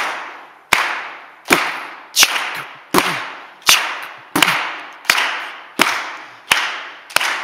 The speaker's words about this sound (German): Super, ne? Das ist schön, wenn man so zusammen klatscht, ne? Und der Rhythmus da ist, da kann man ja wirklich was zusammen machen, da können wir Musik zusammen machen.